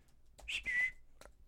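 A blue and white budgie imitates R2-D2's robotic beeps: two bright, high whistled tones, the second longer and held at a steady pitch, then a brief chirp. No one speaks.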